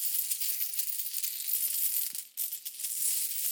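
A steady stream of euro coins clinking and jingling against each other, bright and metallic, with many quick overlapping clinks and one brief lull partway through. No one speaks.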